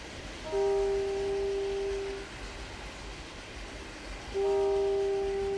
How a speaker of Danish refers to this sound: Første billede. Det er et damptog.